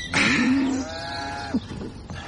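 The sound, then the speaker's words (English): A calf lets out a single long, drawn-out moo lasting over a second, loud, ending abruptly, as calves are being wrestled down on a farm, with faint farmyard background noise and no talking. “Uncle James says we're doing the calves.”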